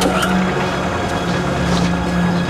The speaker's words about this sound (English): He pushes a button, and the boat is raised up.